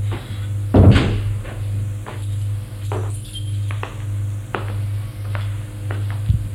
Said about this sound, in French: Elle ouvre une porte.